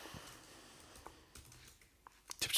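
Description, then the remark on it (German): Quiet, irregular keyboard typing: a handful of sharp key clicks spaced unevenly, ending in a slightly louder flurry of keystrokes, with no voices. “Die Ratten rennen noch schnell über die Tastatur zum nächsten Burger.”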